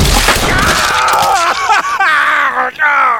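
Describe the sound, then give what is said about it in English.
A sharp, loud gunshot into a man's knee bursts at the start, followed by drawn-out, wavering cries and groans of pain that rise and fall in pitch, with a few brief cracking snaps among them. “Frank shot Jack Rice first in one knee, then the other.”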